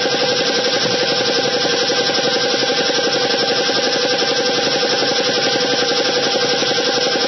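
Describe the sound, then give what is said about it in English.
An air compressor runs steadily in a garage, its motor giving off a loud, continuous mechanical drone with a rapid rattling pulse and humming tones, unchanging throughout and with no voices. “Yeah, that's the compressor in my garage, just waiting for an air-powered automobile to park in that garage.”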